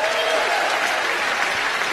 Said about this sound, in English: I knew none of you knew WNBA players. That's crazy. You clap for that. That's great. That's such a good joke.